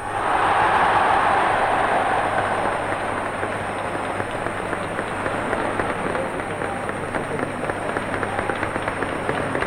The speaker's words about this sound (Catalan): a la plaça Sant Jaume, mentre la pluja comença a caure amb intensitat.